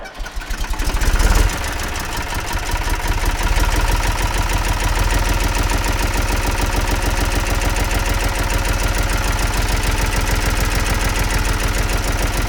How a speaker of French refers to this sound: Alors, ce tracteur est équipé d'un moteur MWM 3 cylindres de 42 chevaux. Il a été fabriqué en 1964.